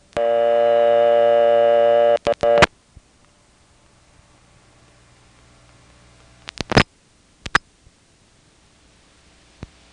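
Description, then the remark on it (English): After the code 21 is dialed, a steady telephone line tone cuts off abruptly. Two sharp clicks follow, then a quiet, hissy silent line broken only by a few faint later clicks. “Two ticks, followed by silence, just like before.”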